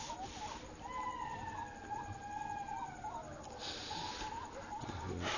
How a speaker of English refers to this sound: Yes, when the jackals go, then these water birds, and they start making noise. Like that. It's funny.